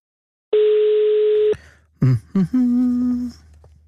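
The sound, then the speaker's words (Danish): A single steady ringing tone of an outgoing telephone call made from the radio station Radio 24/7 sounds for about a second, then the line clicks and crackles and a lower electronic hum follows, with no one speaking. “Undskyld at forstyrre, jeg ringer jo midt i dit arbejde, eller er du færdig?”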